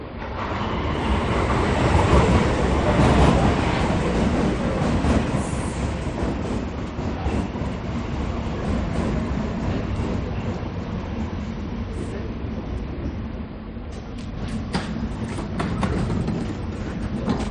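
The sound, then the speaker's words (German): A U-Bahn subway train rumbles steadily along the rails, a dense, loud roar with faint rhythmic clacking and brief metallic squeals near the end, and no voices. “Einstecken bitte. Zug fährt.”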